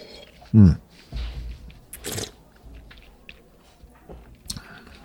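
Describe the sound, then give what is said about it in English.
Quiet mouth sounds of someone sipping Cabernet Franc wine, with a soft thump, a brief airy slurp and a few small lip smacks as it is swished and tasted. No one speaks. “And then on the palate, let's have a sip.”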